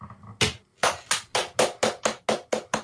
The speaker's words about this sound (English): But I clapped.